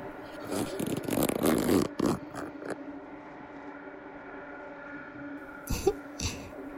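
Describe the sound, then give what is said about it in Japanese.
A trouser zipper is pulled down in a quick, ratcheting burst, followed by quieter fabric rustling and a couple of soft scrapes. “チャック、下ろしますね。”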